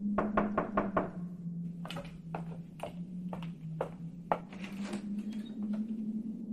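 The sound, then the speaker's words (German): An old innkeeper woman knocks on the door of a hotel room: a quick burst of five sharp knocks on a wooden door, followed by slower, irregular knocks, all fairly loud over a steady low hum. “als die alte Wirtsfrau an der Tür klopfte.”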